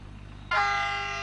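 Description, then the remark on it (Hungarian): A train horn blasts suddenly after a moment of low rumbling, holding one loud, steady tone until the sound cuts off; the train runs between Nagykáló and Nyíradony in Szabolcs county, Hungary. “Ha lassan is, de jár a vonat Nagykáló és Nyíradony között.”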